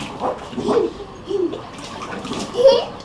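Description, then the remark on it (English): A child pours water that splashes into a paddling pool, a steady watery wash with a child's short vocal sounds breaking in now and then. “And then do you think you can put water in it while it's in the swimming pool?”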